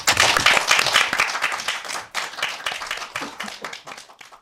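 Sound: audience applause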